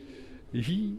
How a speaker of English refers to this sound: Well, we're under a railway bridge on the canal at the end of Tomlin's Terrace. And you might be able to hear pigeons cooing in the... Might be able to hear. It's very loud.